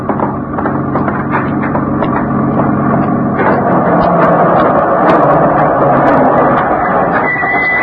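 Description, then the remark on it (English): Nick's truck arriving, its heavy engine rumbling and body rattling in a loud, continuous roar that swells slightly over several seconds, with no voices. “Well, that's Nick's truck coming now.”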